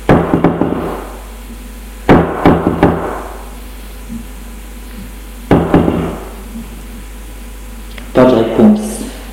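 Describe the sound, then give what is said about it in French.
A young woman of about 20 knocks on two unmarked apartment doors on a building's top floor: four separate bursts of sharp knocking, each a quick cluster of raps, spaced a couple of seconds apart with quiet pauses between, fairly loud. “Elle va tout de même frapper aux 2 portes sans nom.”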